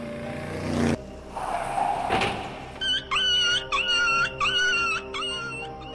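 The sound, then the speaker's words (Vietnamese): After a low rumble and a brief scraping noise, like a motorbike braking hard and a wheel or kickstand scraping the road late at night, the dog Lulu howls in several loud, drawn-out, wavering bursts, with no one speaking. “Tôi khựng lại rùng mình khi nghe một tiếng hú.”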